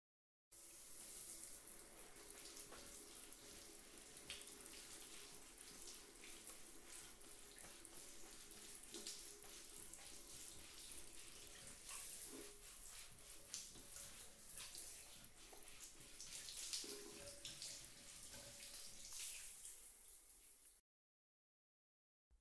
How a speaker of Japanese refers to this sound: 泡が行き渡りましたらシャワーで流しますので、先ほど申しました通り目に入らないよう閉じたままでお願いしますね。はい、それでは泡を流していきます。